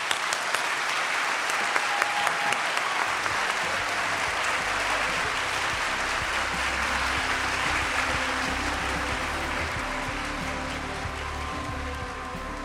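Sustained applause from a crowd at Town Hall Seattle, celebrating poetry readers asked to stand at a 15th-anniversary reading of Seattle's favorite poems with Robert Pinsky, a dense steady clatter of many hands clapping for over twelve seconds at fairly even loudness, with no speech over it.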